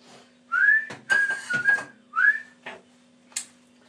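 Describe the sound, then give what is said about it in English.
Shrill, piercing human whistling, a few sliding notes and bursts over four seconds with brief gaps between them, loud and bright with no talking. “It's quite ear-piercing, the whistling, isn't it?”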